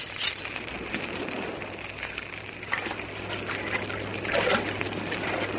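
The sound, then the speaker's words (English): A man in full armor wades into the sea: a steady wash of water with a few heavier splashes as he pushes forward, fairly loud, with no talking. “I enter this sea.”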